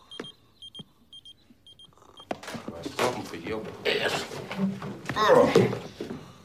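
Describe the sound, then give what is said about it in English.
An alarm clock, held next to a sleeping person's ear in his room, beeps in short, high electronic bursts for about two seconds, fairly quiet, before louder voices and busy noise take over. “… holds the alarm next to …'s ear.”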